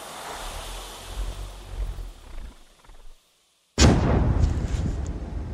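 A low, rumbling background drops to a brief silence, then a hand grenade thrown over a mud wall toward a Russian soldier in a hole about 20 meters ahead explodes beyond the wall with a sharp, loud blast followed by a heavy, roaring rumble that lingers. No one speaks.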